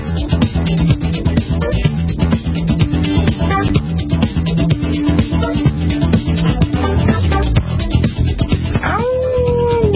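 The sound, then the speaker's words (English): A dog howls in long, drawn-out wails, loud, with a final rising howl near the end over a steady wash of background noise; no one speaks. “Howling for more HP?”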